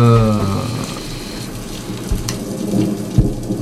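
Steady rain hisses throughout over a low, rumbling undertone like distant-sounding thunder, with a fading tonal hum in the first second and a couple of sharper splashes later on.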